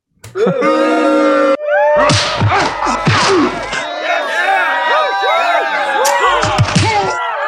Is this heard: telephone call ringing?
no